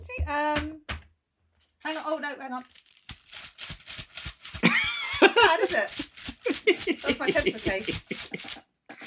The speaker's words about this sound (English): That's my pencil case. That's a little bit sleigh bells, isn't it?